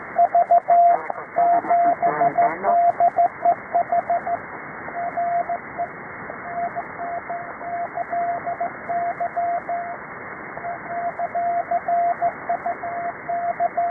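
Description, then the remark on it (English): A steady Morse code (CW) tone keys out rapid dots and dashes over a hissy, band-limited radio channel, with a burst of warbling interference partway through as another transmission walks on it, and no voices. “Okay, the CW you got walked on, was it Bravo Echo Hotel? Delta Echo Hotel?”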